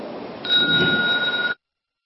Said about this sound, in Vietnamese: Nghe tiếng chuông, đại chúng đồng khởi thân.